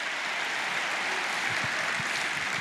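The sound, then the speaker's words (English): A crowd claps steadily, a dense, continuous wash of many hands at moderate volume, with no voices standing out. “Somebody clap and believe for the anointing to break men free.”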